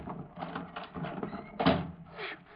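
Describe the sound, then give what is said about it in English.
A door of a pool room in Fresno is pried open to break in: a series of rough scraping and creaking strains, building to a sharper, louder crack near the end, followed by a brief rasping scrape, with no voices. “Come on, here's a door we can pry open.”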